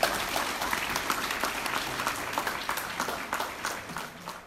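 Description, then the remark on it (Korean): Sustained standing ovation from a large audience at a North Korean human rights event titled Ji Seong-ho Recital, a dense, steady wash of many hands clapping at an even loudness throughout, with no voices rising above it. “굶주림 때문에 장애인이 된 14살 꽃제비 소년에서 한반도 통일에 대한 비전과 확신에 찬 기독교 청년으로 변모한 지 대표에게 청중들은 기립박수를 보냈습니다.”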